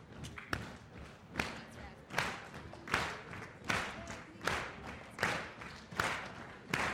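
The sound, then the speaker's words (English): A group of people stands, stomping their feet and clapping in a steady, repeating rhythm, the sharp claps falling roughly once a second and mixed with heavier stomping thuds, loud throughout. “And then clap.”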